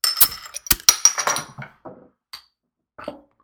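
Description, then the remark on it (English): A beer bottle gets cracked open: a quick cluster of sharp metallic clicks and glassy clinks, followed by a few quieter, scattered taps, with no talking. “Crack it I guess open. There's really only one way to find out whether or not it's any good. You do this.”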